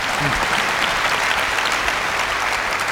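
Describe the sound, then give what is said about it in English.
Sustained applause from a large audience, a dense, steady wash of many hands clapping at once, loud throughout without breaks. “You can clap.”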